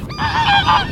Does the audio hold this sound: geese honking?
yes